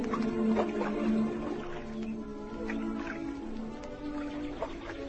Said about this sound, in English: to the warm, sunny, grassy banks of North Lakes, with the birds twittering and the water lapping.